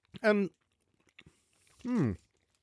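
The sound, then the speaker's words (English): Someone chews crunchy chocolate with Rice Krispies in the middle, with a few faint crisp bites between two voiced, appreciative murmurs made through a full mouth. “It's got like a crunch in the middle.”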